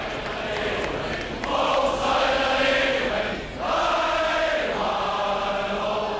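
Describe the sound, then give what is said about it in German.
A large crowd chants and cheers in unison for two visiting cosmonauts, the choruses swelling in two long sustained waves with a brief dip between them, loud and continuous over a dense background roar. “Und überall tönen die gleichen, mehr oder minder spontanen Jubelchöre.”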